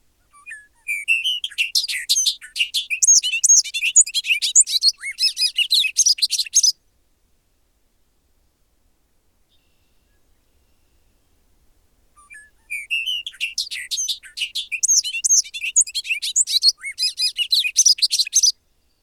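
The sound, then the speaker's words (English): A bobolink's bubbling, tumbling song pours out in two long bursts of rapid metallic notes and chirps, separated by a few seconds of silence, clear with no voices. “Which meadow bird sings a bubbling delirium of ecstatic music? It's the bobolink.”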